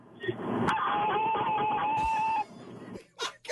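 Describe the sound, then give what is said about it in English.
A person loudly imitates a car alarm with their voice as a car alarm challenge, holding a shrill, wavering whine for about two seconds, then trailing off into breathy noises. “Time for you to take the car alarm challenge.”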